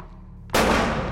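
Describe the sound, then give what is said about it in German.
A quiet low hum is abruptly broken by a loud, harsh blast of gunfire in a dark multi-storey building, continuing as a dense, sustained burst to the end, overpowering, with no voices. “Woher kommen die Schüsse?”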